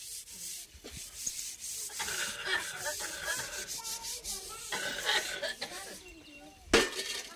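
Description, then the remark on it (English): A woman scrubs pots and pans using straw taken from the roof, mixed with mud as an abrasive: a gritty, steady rasping rub punctuated by occasional metallic scrapes and clinks, ending with one sharper scrape; no one speaks. “So she takes some straw from the roof, which will act as the sort of abrasive. Mixes it with a bit of mud.”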